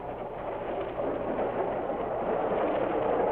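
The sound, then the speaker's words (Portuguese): A Central do Brasil passenger train in Brazil runs steadily along the rails, a continuous dense rumble with a low droning hum underneath. It is fairly loud, with no voices. “A história começou dentro de um trem da Central do Brasil.”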